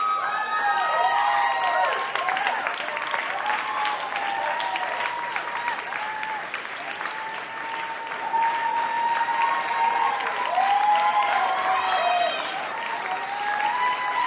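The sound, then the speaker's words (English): A fairly subdued, mostly seated concert crowd at the 9:30 Club applauds steadily throughout, a dense, continuous patter of many hands clapping at moderate volume, with a few scattered voices and cheers rising above it. “A fairly subdued, mostly seated crowd at the 9:30 Club.”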